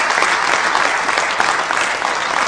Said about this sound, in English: Give all those organizers a big round of applause.